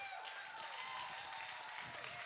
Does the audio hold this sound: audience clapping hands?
yes